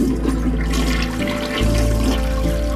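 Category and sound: household object, toilet flushing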